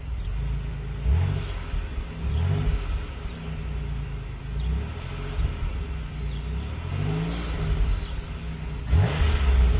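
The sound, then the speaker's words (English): A car is started and its engine idles with a steady rumble, then is gunned sharply several times, each rise in pitch swelling and falling back, loud with no talking. “What I'm going to do is start the car and then gun the engine a few times.”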